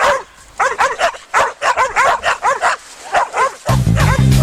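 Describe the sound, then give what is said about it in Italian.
Several dogs bark and yip in rapid, overlapping loud bursts, with a few higher whimpering yelps, before a dense low musical sound swells in at the end. “Sguinzagliate i cani, maledetti! Sguinzagliate i cani, cribbio!”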